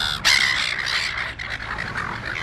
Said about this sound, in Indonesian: Burung camar yang berisik itu dikenal suka mengganggu pengunjung di pantai Australia.